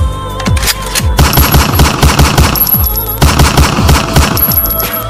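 Sustained bursts of automatic rifle fire: rapid, evenly spaced loud shots rattling for about five seconds, with brief gaps between volleys and a faint high ringing tone over them. No one speaks.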